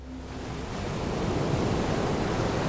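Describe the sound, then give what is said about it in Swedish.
Arabian Sea waves at Dandi, India, roll and surge onto the shore in a steady, broad roar of surf that swells slightly louder as it goes, with a breezy wash over it and no voices. “Havet rullar i sina aldrig stillande rörelser och brusar bakom raderna av poliser som ställts upp på stranden.”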